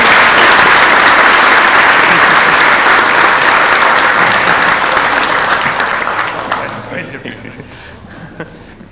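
Loud, sustained applause at a church service, with dense clapping that holds steady for several seconds, then thins out and fades to a few scattered claps near the end.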